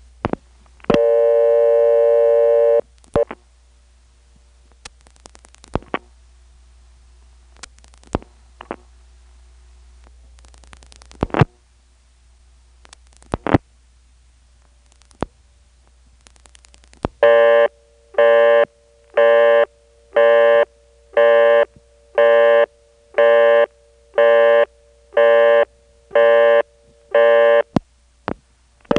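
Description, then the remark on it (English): A telephone busy signal on a local busy number dialed from Kenley pulses in a steady rhythm of about a dozen short, evenly spaced tone bursts, with faint ringtone blips at the start and end of each, preceded by a brief tone and clicks. “The busy tone here has subtle blips of ringtone at the beginning and end of each busy signal tone burst.”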